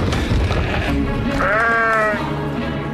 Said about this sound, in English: Bloody animals. Oh, my lord! Is something wrong with the sheep? They attacked us.